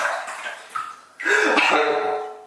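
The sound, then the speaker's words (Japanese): Water sloshes and splashes in a bathtub in a home bathroom, a quiet stir at first, then a louder, sustained burst of splashing that echoes in the bathroom. “はい、ね、今ちょっと水音がね入ったので、ちょっと今思い出したんですけども”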